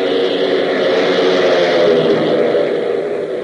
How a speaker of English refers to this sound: But meanwhile, several hundred miles to the south, a large, ungainly, box-like plane lumbers across a cleared field and, gaining speed, finally roars into the air, heading due south.